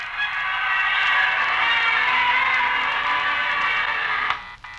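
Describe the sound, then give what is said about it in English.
A large crowd of thousands of people in Times Square, waiting to usher in the new year three hours away, gives a steady roar of many overlapping voices, thick and unbroken for several seconds, with a muffled, old-broadcast tone, cutting off abruptly near the end. “Broadcasting from the heart of Times Square, surrounded by thousands of persons waiting to usher in the new year just 3 short hours away. Listen to that crowd.”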